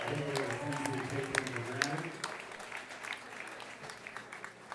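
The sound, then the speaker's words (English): An audience at a live radio show claps steadily for the servers and bartenders, a dense wash of many hands, with voices murmuring underneath for the first couple of seconds before the applause carries on alone and slowly thins. “Another round of applause, since I'm talking along those ways, for the servers and the bartenders who take wonderful care of me.”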